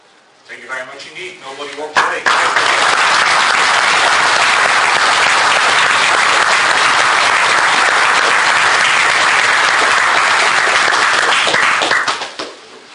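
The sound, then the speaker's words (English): After a brief moment of speech, an audience breaks into loud, sustained applause following an hour-long talk of demonstrations and theory, a dense steady wash of many hands clapping for about ten seconds before it trails off. “What followed was a fascinating hour of demonstrations and some theory, I must say, but I think everyone enjoyed it, as you can tell from the applause.”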